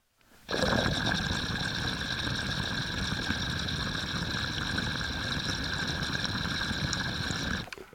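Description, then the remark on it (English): A 10 millimeter glass water pipe with a double diffuser bubbles steadily for several seconds, a dense low rumbling churn topped by a thin, constant high-pitched whistle, with no one talking. “Yeah, she has that pretty little like rumble with a little chirp on top.”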